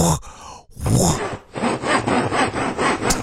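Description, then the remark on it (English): A voice imitates a saw cutting wood, with rough, raspy back-and-forth strokes: two long breathy pulls, then a quicker run of about six rhythmic rasping strokes, loud and alone. “I can also make the sound of a saw.”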